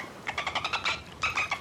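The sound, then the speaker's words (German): A call from Fini, a little dolphin, a bit lower pitched than before: a quick string of chirping, buzzy pulses in two bursts with a short pause between, fairly loud and with no voices over it. “Das war er doch, unser kleiner Delfin. Na nun, der Ruf klang jetzt ganz anders, ein bisschen tiefer.”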